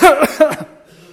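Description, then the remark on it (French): A quick run of three or four harsh coughs from one person who has been coughing for weeks, loud at first and then trailing off into quiet. “C'est vrai, moi aussi, oh là, je tousse depuis, je ne sais pas, des semaines.”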